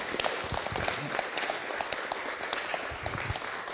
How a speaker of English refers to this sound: Shall we give them a round of applause?